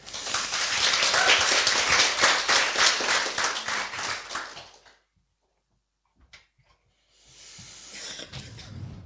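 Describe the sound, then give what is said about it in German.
An audience bursts into loud, steady applause with dense clapping for about five seconds, then it stops abruptly; after a short silence a softer patter of clapping or rustling returns. “Ein Applaus bitte für meine Zwillingsschwester Verena.”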